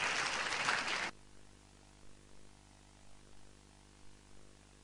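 A brief, loud burst of audience applause welcoming the deputy secretary-general of the National Health Assembly at the Roi Et Provincial Health Assembly in Thailand: dense crackling clapping lasting about a second before cutting off abruptly into near silence with a low steady hum and a few soft bumps.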